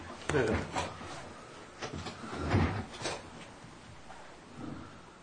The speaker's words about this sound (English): I see I got the chair that sinks.